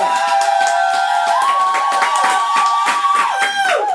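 Steady applause from an audience for the host's assistant and business partner fills all four seconds, a dense, loud patter of many hands clapping, with a sustained tonal hum or music playing underneath.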